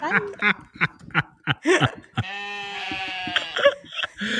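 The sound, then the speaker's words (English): A woman gives a drawn-out, wavering bleat imitating a sheep, lasting over a second, preceded by short choppy laughing or vocal bursts and followed by a brief giggle. “Are you the sheep or am I? She's the sheep.”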